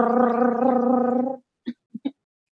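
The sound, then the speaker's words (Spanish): A voice imitates a drumroll to announce a big surprise: a steady, rolling, gargly trill held for about a second and a half, then three quick, punchy vocal hits, like a finishing drum flourish, before silence. “así que voy a hacer el sonido de los tambores imaginario.”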